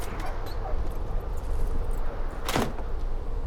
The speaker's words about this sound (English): He stares at the pickup driver through his dark glasses, walks past the first guy, climbs the steps and unlocks the door to the office.